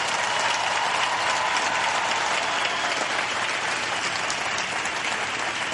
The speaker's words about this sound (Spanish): Vamos a agradecerle a todos los que lo llamaron y a todos los que trabajaron para posibilitar esta reunión. Y lo hacemos con un fuerte aplauso.